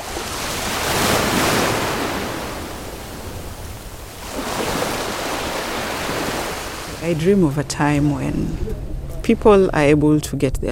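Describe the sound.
Broad, rushing sea surf and wind roar out at sea, swelling in waves for several seconds before a voice begins speaking over the continuing ocean noise.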